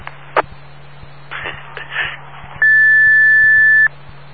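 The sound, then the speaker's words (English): Electronic Morse code tones spelling the letters I and A: a brief high beep, then a single long, loud, steady tone lasting over a second, over faint rustling and a low background hum. “Yeah, you just sent an A and an I. The first one was an I.”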